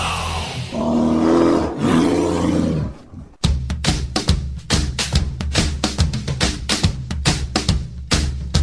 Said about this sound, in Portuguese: Muito bem, antes da gente começar efetivamente a falar do elenco do Chicago Bears, eu vou deixar com esse rugido maravilhoso que eu sei que você estava com saudade de ouvir.